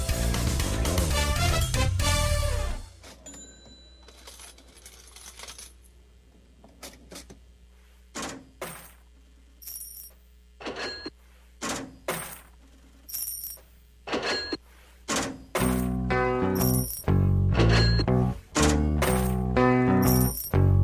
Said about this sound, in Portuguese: Esse é o som de uma das caixas registradoras mais famosas da história, né? Afinal de contas, é a caixa registradora que todo mundo escuta há mais de 50 anos